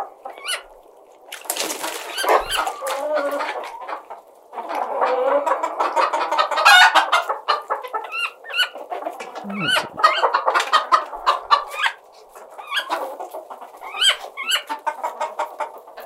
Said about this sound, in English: Hey, I'm out in the country tending to my cousin's hen house. Those don't sound like hens. Or maybe they do.